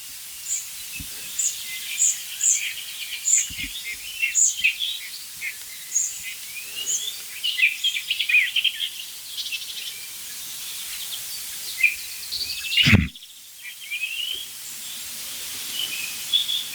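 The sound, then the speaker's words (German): A nightingale sings a steady run of varied chirps, whistles and trills, clear over a faint hissing, insect-like background, with one brief thump near the end. “Nein, das ist die Nachtigall.”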